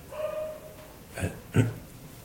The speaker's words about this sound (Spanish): Pero ese perro está ladrando, claro, ladrando, bellen.